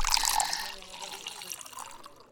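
A short pour of liquor into a glass, a bright splashing trickle that is strongest at the start and thins out over about two seconds.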